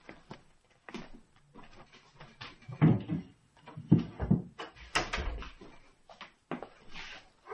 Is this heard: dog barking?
yes